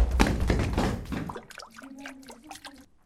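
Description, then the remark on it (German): A heavy, loud crash and rumbling thud as a washing machine topples over in a basement, followed by quieter gurgling and trickling as its water spills out. “eure Waschmaschine ist umgekippt. Oh nein, das ganze Wasser läuft aus.”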